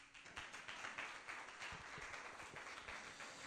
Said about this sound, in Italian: Alleluia. Noi applaudiamo sempre il Signore.